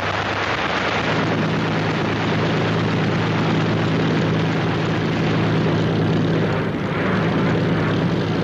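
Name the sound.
propeller aircraft engine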